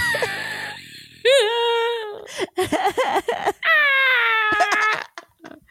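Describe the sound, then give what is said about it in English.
A cat screams in drawn-out, high-pitched yowls with wavering, bending pitch. Two long loud wails are separated by a burst of choppy, broken cries, then a brief quieter trail-off. “She was also playing cat screaming.”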